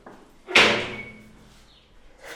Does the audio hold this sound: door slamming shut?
yes